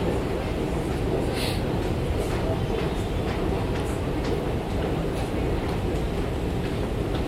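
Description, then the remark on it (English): A London Underground tube train rumbles loudly and steadily throughout, with faint rhythmic clacks and metallic squeals over a dense roar of the carriage. “We're not taking our planned route on the tube.”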